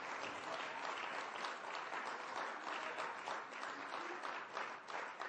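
An audience at a morning church service claps for the Lord for several seconds: a dense, even wash of many hands with no voices rising above it.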